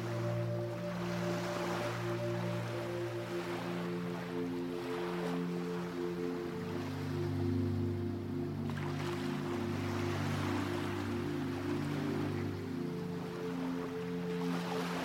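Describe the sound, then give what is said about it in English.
Ocean waves wash in with slow, repeating surges of hiss, steady and moderately loud, beneath sustained low drone-like musical tones that hold throughout. “The healing, salty water is there to wash over you now.”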